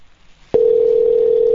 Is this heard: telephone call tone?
yes